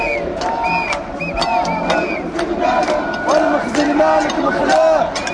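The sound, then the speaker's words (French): A crowd of protesters in a march about Morocco, in the young, festive Attac contingent, shouting and chanting, with loud, irregular clanks of pots being banged throughout and a guitar playing, sharp metallic hits scattered over the steady din of voices. “Ça tape sur des casseroles et une guitare.”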